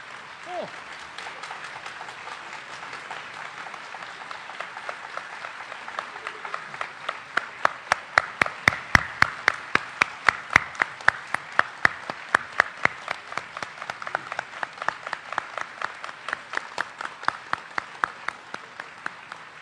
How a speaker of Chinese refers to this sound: 我们用最热烈的掌声请出我们的老寿星，相声名家张文顺先生。